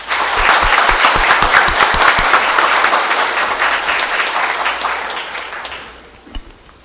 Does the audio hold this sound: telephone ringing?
no